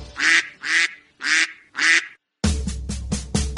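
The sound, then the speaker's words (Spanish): A duck quacks four times in loud, evenly spaced calls, then breaks into a faster, busier run of quacks after a short pause, clear with no voices. “Dime si tú sabes cómo hace el pato, vamos a escucharlo tú y yo.”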